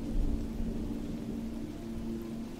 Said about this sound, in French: Alors qu'autour de vous, les animaux rejoignent leurs abris pour se protéger de la tempête qui se lève